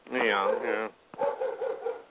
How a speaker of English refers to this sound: Well, you have a dog? No, it's a neighbor's dog.